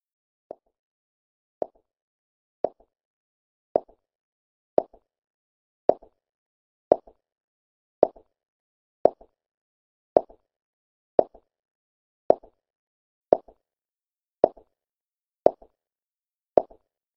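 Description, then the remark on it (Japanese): Steady footsteps walk an empty corridor, about sixteen even, hollow thuds roughly a second apart, each leaving a short echoing tail. No voices, nothing else in between. “足音が響く。誰もいない廊下に一定のリズムで。”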